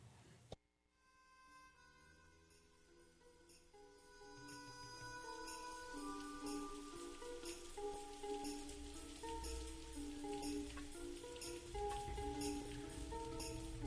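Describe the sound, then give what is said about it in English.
Steady rain patters down, starting soft and swelling into a dense hiss of drops after a few seconds, with faint sustained ringing tones beneath it. “Looks like rain.”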